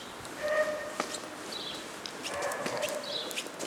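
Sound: house sparrows chirping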